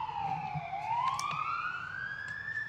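An emergency vehicle siren wails steadily, its pitch dipping and then slowly climbing again, over a low background rumble with no talking.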